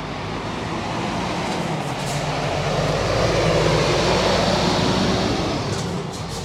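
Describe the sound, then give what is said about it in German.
A large truck rumbles past outdoors, its deep, broad roar swelling toward the middle and then slowly easing off. The sound is loud, with no voices. “Gut, das ist sogar ein riesen Laster, muss man sagen.”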